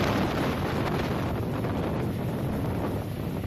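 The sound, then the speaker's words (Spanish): A continuous roar of wind buffeting the microphone over churning, rumbling water, loud and steady throughout with no voices: a rough sea in the waters off Newfoundland, with huge waves up to 10 metres high and wind gusts reaching 80 km/h. “Este es precisamente el sonido de ese mar, las aguas de Terranova, el escenario de la tragedia esta misma mañana.”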